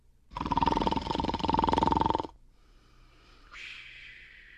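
A single loud, rasping snore lasts about two seconds, rattling and buzzing with an almost roar-like growl, then gives way to quiet, faint high-pitched tones.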